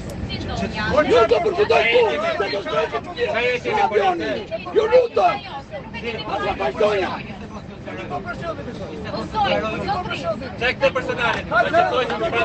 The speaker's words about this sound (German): hinter mir in Reihe 3, die schreien sich gegenseitig an in einer Lautstärke, wirklich, es waren tumultartige Szenen, Leute. Ich habe natürlich, weil ich ein Fuchs bin, eine Sprachnachricht gemacht. Hört euch das mal an. Das war im Flieger.